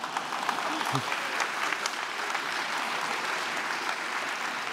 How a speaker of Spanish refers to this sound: ¿Alguien aplaudió? Síganlo, por el amor de Dios.